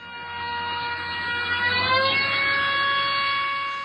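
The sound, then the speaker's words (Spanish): A sustained, buzzy car horn played backwards: the blaring tone holds steady, then its pitch slides upward partway through, an unnatural reverse of the familiar drop as a car passes. No one speaks. “Sí, es el sonido anterior simplemente pasado al revés. En este caso la frecuencia ha ido aumentando.”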